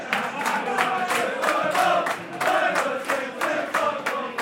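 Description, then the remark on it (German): A dense crowd of mostly British football fans roars and chants in a packed football pub in southern Spain during Real Madrid's Champions League round-of-16 match against Manchester United, with rhythmic bursts of clapping or shouting recurring roughly every half second over a constant loud din of voices. “Eine Fußballkneipe am Südzipfel der Iberischen Halbinsel. Volles Haus.”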